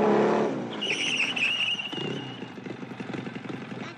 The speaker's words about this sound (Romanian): Vine cu motocicleta aia.